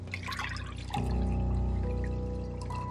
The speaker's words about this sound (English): She takes a cup and pours milk into it.